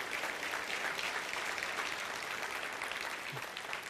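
A crowd applauds one another steadily, many hands clapping at once in a dense, even wash of sound that stays loud throughout, with no voices rising above it.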